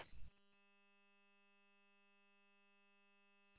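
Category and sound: signal or alarm, radio repeater courtesy beep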